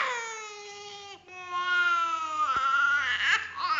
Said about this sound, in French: Et ça impressionne, mais ils sont vraiment mieux après. Ça fait mal au cœur parce qu'elle pleure beaucoup, c'est impressionnant, mais après on la sent quand même vraiment mieux.